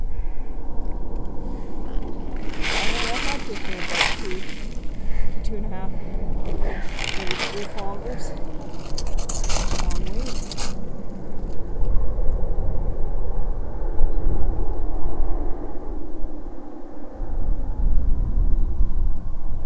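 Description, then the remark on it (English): A heavy engine rumbles steadily and loudly for the whole stretch as an oncoming truck approaches, with several bursts of broad hissing noise in the first half. “Oh no, it's a truck that's coming.”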